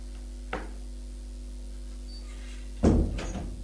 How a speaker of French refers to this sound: Elle ouvre la porte de la chambre.